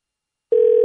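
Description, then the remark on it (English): A steady, unbroken dial tone cuts in abruptly after a brief silence and holds at an even, fairly loud level, the flat hum of a dead phone line with no voices. “I guess not. Our phone system is just phenomenal this afternoon.”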